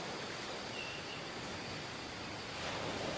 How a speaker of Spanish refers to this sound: Mira el mar. Tan bello, tan peligroso. Incontrolable.